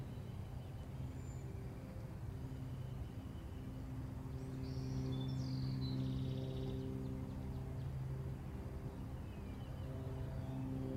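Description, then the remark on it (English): A steady, droning engine hum from an aircraft passing high overhead, holding even throughout, with a few faint bird chirps briefly rising above it near the middle. “The lazy airplane going by.”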